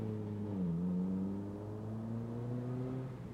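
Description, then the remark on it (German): A taxi's engine hums, its pitch dipping briefly as it slows and turns into a gas station, then settling into a steady low drone as it rolls on. No voices. “We need some gas, meint der Taxifahrer und biegt in die Tankstelle ein, während das schwarze Auto weiter die Landstraße entlang fährt.”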